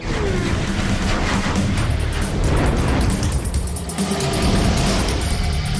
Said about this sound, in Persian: گرچه به نظر بعضی‌ها صدای بلند و تهاجمی نوت اگزوز کمی غلط انداز بود.